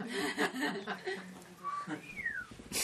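A person whistles briefly: a short steady note, then a higher tone that slides downward. It follows a few seconds of soft chuckling and voice sounds, fairly quiet.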